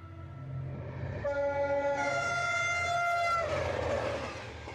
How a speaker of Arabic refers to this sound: وكلما أسرع القطار في طريقه نحو تلك السهول الخضراء، كلما أسرع الزمن في طي صفحة كانت ولا تزال من أجمل صفحات الزمن المنسي على عتبات المجد وأكثرها وجعاً وألماً.